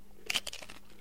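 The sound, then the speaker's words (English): A crisp crunch as someone bites into food, followed by a few softer crackly chewing sounds in quick succession, with no talking. “Okay, let's have a taste. It's time. The proof is in the eating.”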